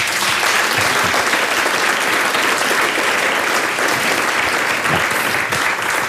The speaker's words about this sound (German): darum würde ich sagen, nochmal einen donnernden Applaus.